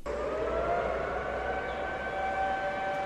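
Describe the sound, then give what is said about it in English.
In Wuhan, capital of Hubei province, China, sustained horns from cars, trains and ships blare together during a moment of mourning for those who died of the coronavirus, while pedestrians bow their heads. The horns form a steady, overlapping drone of held tones, loud and unbroken throughout, with a low rumble underneath and no talking. “Cars, trains, and ships sounded their horns while pedestrians bowed their heads in silence.”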